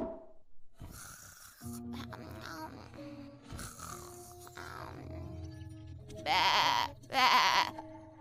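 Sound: sheep bleating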